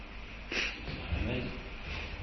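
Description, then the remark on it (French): A man gives a single short, sharp cough, followed by a brief low rumble of breath or murmured voice. “Il a toussé, je voulais savoir si c'est un code.”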